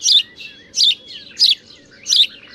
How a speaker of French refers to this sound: Ah ben le pierrot, le petit pierrot, le moineau domestique, qui lui justement va pas bien en ville.